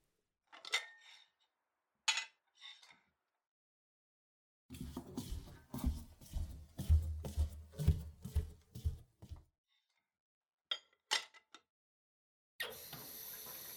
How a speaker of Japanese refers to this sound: じゃあ、食器を片付けておくね。